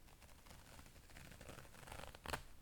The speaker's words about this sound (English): slide your zipper down just like that?